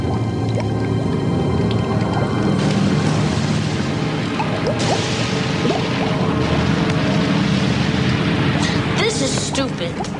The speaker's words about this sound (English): plunks the dolls into the bubbling liquid.